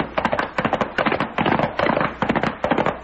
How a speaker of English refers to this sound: There's a whole gang down there pumping lead into the Charlton house.